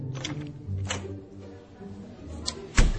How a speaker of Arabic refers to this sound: وصك الباب وراك